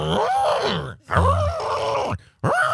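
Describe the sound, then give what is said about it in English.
A man's voice imitates a horse's grunt in three loud, strained bursts, low and rough with a brassy, elephant-like edge, separated by brief silences. “Sounds like an elephant. That's a horse that was telling me he didn't like me.”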